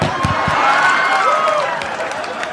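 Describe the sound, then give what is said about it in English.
An audience breaks into steady, loud applause in response to a joke, a dense wash of many hands clapping with a faint murmur of crowd voices underneath, holding level before easing slightly at the end. “I can't believe you clapped about that.”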